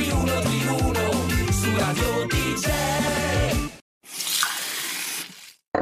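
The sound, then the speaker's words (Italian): A few seconds of upbeat music stop abruptly, then tap water gushes steadily from a tap for under two seconds, a hissing stream that cuts off. “Noi beviamo ogni giorno l'acqua del rubinetto, anche a scuola, perché è buona, sicura e controllata da Gruppo K.”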